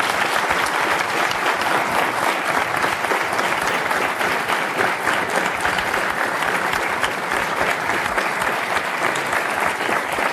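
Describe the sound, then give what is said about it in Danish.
The audience of a live radio show applauds steadily for about ten seconds to thank a guest, a dense, loud wash of many hands clapping with no pauses and no voices standing out. “tusind tak, fordi du kom, og publikum vil ikke nok give ham en rigtig, rigtig stor tak.”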